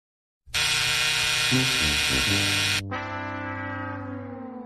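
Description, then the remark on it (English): A loud, harsh buzzer sound effect blares steadily for about two seconds, given as a verdict on a Liv Morgan versus Toni Storm wrestling match, then shifts into a lower, slightly softer buzzing tone that holds to the end. No one speaks. “And so we give it the old buzzer. We give it the buzzer treatment.”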